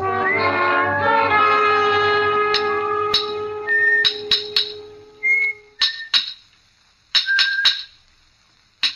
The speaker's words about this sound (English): From the yard itself came a cheery whistle, the noise of hammer blows, and the cold sound of steel meeting stone.